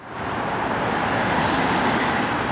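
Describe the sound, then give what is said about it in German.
Cars and cyclists cross the green-painted Glienicker Brücke, which links Potsdam and Berlin, Germany. Traffic makes a steady, loud, continuous, unbroken roar of tyres and engines, with no voices. “Heute fahren Autos und Fahrradfahrer über die grün angestrichene Glienicker Brücke, die Potsdam und Berlin verbindet.”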